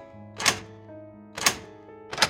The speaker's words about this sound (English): He guides you to the inside of the lock. Oh, right. So then he starts lifting these tumblers. You can hear they start to.